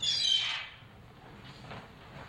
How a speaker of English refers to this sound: Just a little bread. Please tell me you're not feeding the seagulls again.